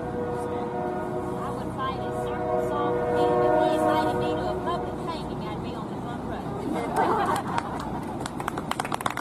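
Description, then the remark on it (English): A train rumbles past a public square, loud and continuous, with sustained horn-like tones and a burst of rhythmic wheel clatter near the end, nearly drowning out a muffled woman's voice, recorded on a cell phone, talking underneath. “But luckily for her, there's a train going by and it's very difficult to hear.”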